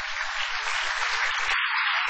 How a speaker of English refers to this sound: I can see you're applauding.